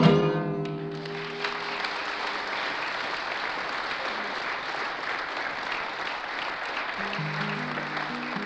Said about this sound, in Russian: Вы извините, что я прекращаю ваши аплодисменты на полдороги. И это вовсе не потому, что я их не люблю. Одна из многих легенд, которые про меня ходят, это та, что я не люблю аплодисменты. Это неправда.